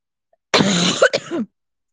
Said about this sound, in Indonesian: Gila, batukku nggak sembuh-sembuh, coy. Minum obat apa ya bagusnya ya?